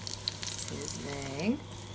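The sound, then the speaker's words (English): A steady hiss and crackle of garlic sizzling in really hot oil in a wok on a wok hob runs throughout, with a brief murmuring voice rising partway through. “And then when the oil's really hot, you can see the garlic sizzling a bit.”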